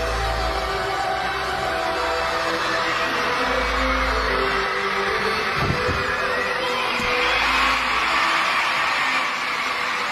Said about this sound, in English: Wasn't standing on the podium, but they were clapping really loud when she landed that.